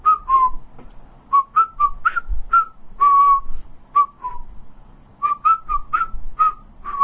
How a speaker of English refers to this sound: I stuffed my hands in my pockets, in the pockets of my cowboy jeans, and whistled.